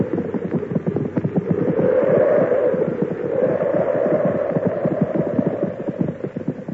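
Hooves of several horses clip-clop steadily as they are brought into a barn for shelter from a snowstorm, a dense, continuous patter of hoofbeats over a low rushing drone, with no one speaking.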